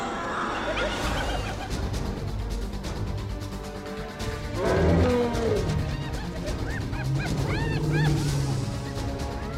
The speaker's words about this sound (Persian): یک فیل نر جوان نعره می کشد. او یک غول 4 تنی است که با 50 برابر تستوسترون معمول می آشوبد. او دیگر از این جار و جنگال خسته شده است.